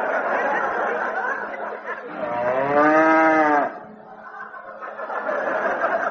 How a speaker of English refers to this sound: What's that? Daisy. Ah, Daisy the cow.